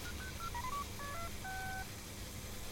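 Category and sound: signal or alarm, telephone keypad dialing tones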